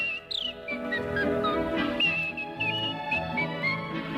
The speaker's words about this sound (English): With a yodel like a church bell's chime. Yodel, and a whistle bright as polka time.